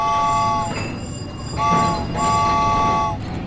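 A train rumbles steadily along the rails, fairly loud, with sustained high-pitched tones rising over the clatter in a few drawn-out stretches. No one speaks.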